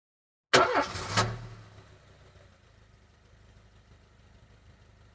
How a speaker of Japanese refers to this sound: 車です。